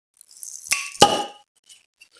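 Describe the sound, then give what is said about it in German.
Two bright glass clinks close together, a toast with the second chime ringing out longest, followed by faint scattered taps amid quiet. “Prost. Prost, ne?”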